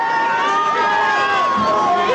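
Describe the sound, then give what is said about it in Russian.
A large audience roars and cheers as a performer comes out to them again, a dense, loud wall of overlapping voices and shouts that holds steady throughout, with no single speaker standing out. “Слышите? Вот он снова выходит к публике.”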